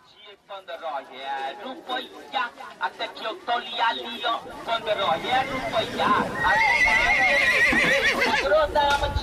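Horses neigh and whinny again and again at the Sonpur livestock fair in Bihar, India, at a horse market in Om Prakash Singh's orchard, loud wavering calls over a steady murmur of crowd noise, with occasional hoof clops mixed in.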